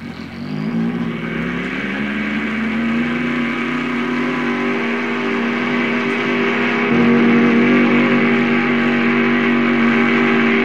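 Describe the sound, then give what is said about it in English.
A loud engine drone climbs in pitch at the start, holds a steady roar, then surges louder partway through, as a plane at the end of the runway runs up its engine to check it before takeoff. No voices. “They run up the engine, check it out, make sure it works. And then they take off.”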